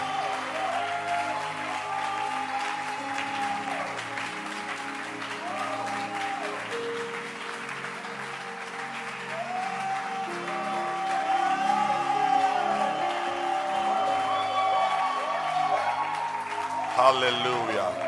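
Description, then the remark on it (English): An audience in church claps hands in a steady, dense wash of applause that runs the whole time, growing a little louder toward the end, with voices sounding over the clapping. “Keep clapping.”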